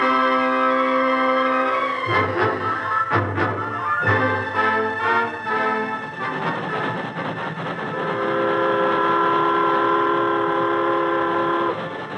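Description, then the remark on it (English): A train rumbles steadily along the rails in the hills 10 miles east of Ransom as it slows to a stop, with sustained, whining metallic tones and a few heavy clunks early on. It is loud, with no voices. “Days later, in the hills 10 miles east of Ransom, the train slowed to a stop.”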